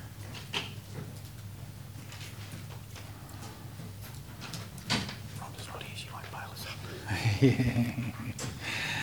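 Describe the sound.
Doors being partly closed during a council meeting: a couple of soft thuds early on, then a longer scraping slide and clunk near the end, with quiet murmuring voices in the background.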